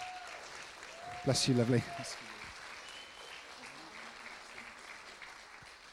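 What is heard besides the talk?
audience applause in church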